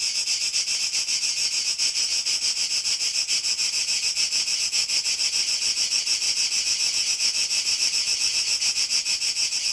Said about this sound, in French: un autre insecte, le grillon, dont le chant nocturne berce ses insomnies d'amoureux solitaires